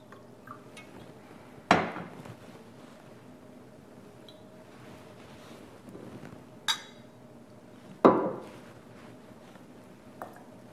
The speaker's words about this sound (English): After approximately 1 minute, the reaction has finished, and what we then do is add a glass of water. We always dilute the concentrate with water.